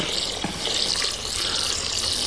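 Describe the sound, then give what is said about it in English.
Water runs steadily from a tap, a continuous hissing splash with a bright, broad rush that holds an even level throughout, with no voices. “And now I know the metaphor is quite stretched there, but I want us to look at our lives and think of the water running into our situation. Just listen to it.”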